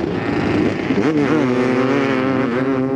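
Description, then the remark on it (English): Loud off-road motorcycle and ATV engines rev continuously as they race up the steep face of Oldsmobile Hill, a sand dune about 500 feet high in Imperial County Park's desert, their pitch climbing and dipping as throttles open and ease, with a steady rush of wind noise underneath. “For all-terrain vehicles and motorcycles, the sand dune's steep, smooth face is a standing invitation for an uphill race.”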